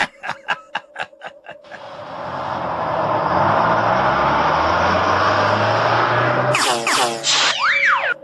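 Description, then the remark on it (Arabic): A heavy bus rumbles in from a distance, its engine and road noise swelling into a loud, steady roar. Short pulsing bursts come before it, and high squealing sweeps follow near the end. “أرى حافلة قادمة من بعيد.”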